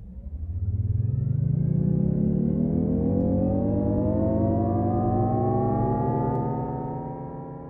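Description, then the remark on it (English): A synthetic electric car driving sound created for the Jaguar I-PACE electric vehicle: a smooth, humming tone that rises steadily in pitch as if accelerating, then holds a steady whine for several seconds before easing off. It is loud and has no talking. “That sound, released last year, was created for Jaguar's electric I-PACE vehicle.”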